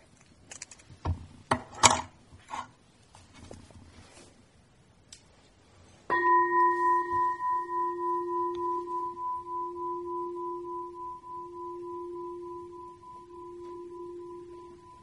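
A meditation bell is struck once after a few soft handling clicks, rung to illustrate hearing during a Buddhist teaching, then rings on with a steady, low, mellow tone and higher overtones, slowly fading with a gentle wavering pulse.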